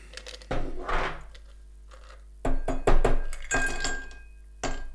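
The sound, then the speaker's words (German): On a Monday afternoon, a container is worked open and glasses are filled: bursts of clattering, clinking knocks and a rustly scrape, separated by quiet pauses, with no talking. “Jetzt wird abgefüllt, meine Damen und Herren.”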